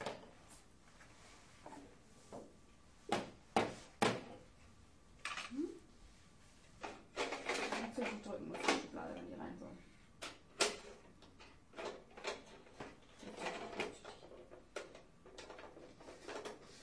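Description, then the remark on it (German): A drawer is handled: a series of sharp wooden knocks and clacks, then a longer scraping slide as it is pulled out and pushed back, followed by more scattered bumps. “Das brauchen wir nur zu drücken, wenn die Schublade raus ist.”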